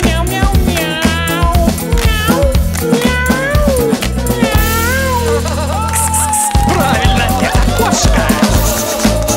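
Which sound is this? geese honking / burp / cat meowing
cat meowing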